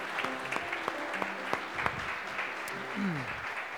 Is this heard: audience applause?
yes